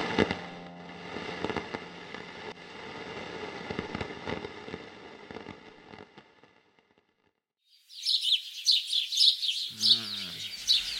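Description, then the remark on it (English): After a burst of crackling pops and a brief silence, an alarm clock starts playing recorded birdsong: dense, busy chirping and tweeting, fairly loud, with no one speaking. “Why did she program birds? So many damn birds.”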